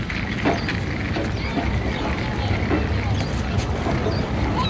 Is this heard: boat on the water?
yes